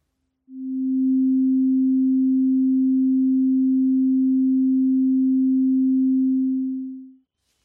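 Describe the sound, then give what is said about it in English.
A single pure sine tone of 256 cycles per second, low-pitched and perfectly steady, fades in smoothly, holds at a constant loud level for about seven seconds, then fades out. No voices or other sounds. “The first thing we did was created a pure tone of 256 cycles per second.”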